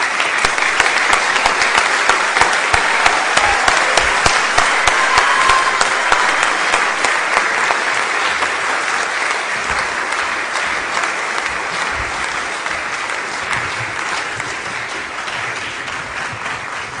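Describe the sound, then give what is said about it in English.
A large standing audience at a graduation ceremony claps for the graduates steadily for about seventeen seconds, a dense, even wash of many hands that stays loud throughout and fades only slightly toward the end. “Let's all stand together and give them a final round of applause.”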